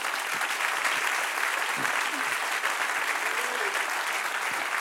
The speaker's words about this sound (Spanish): Den un aplauso, Señor.